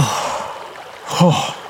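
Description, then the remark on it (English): Heavy, labored breathing from an injured man lying on the ground with a bullet wound in his shoulder: ragged breaths with a strained, groaning gasp-and-exhale rising near the end, over a faint wash of background noise. “He's still breathing.”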